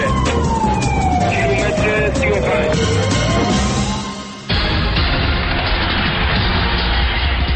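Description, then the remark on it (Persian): An ambulance siren wails loudly for about four seconds, its pitch swooping down and back up, before cutting abruptly to steady, dense road and engine noise. “خبرنگار واحد غیر مرکزی خبر توی آمبولانس در حال نوازش و دلداری مرد صدق و امانت یا همان آقای کدخدایی.”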